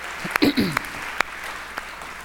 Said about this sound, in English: So round of applause